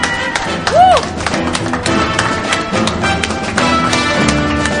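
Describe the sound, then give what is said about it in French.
A small group claps steadily for several seconds for the winner of a game, the irregular hand slaps forming a dense patter, with a brief rising-and-falling whoop or whistle early on. “Je pense qu'on peut l'applaudir bien fort.”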